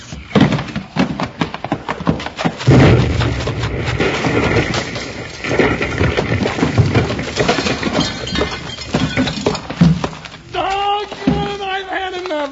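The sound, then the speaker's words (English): A keg of blasting powder explodes in a long, loud roar of crashing, rumbling debris and shattering glass that clatters on for several seconds, with a voice crying out near the end. “That's a keg of blasting powder.”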